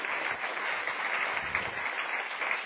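A crowd applauds with steady, dense clapping that holds at an even level for a few seconds, sounding like a full room of hands with no voices rising above it.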